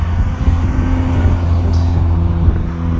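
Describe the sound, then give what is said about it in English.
A loud car engine rumbles, its deep droning hum holding steady for a few seconds as the vehicle drives past, with no voices. “Very noisy car.”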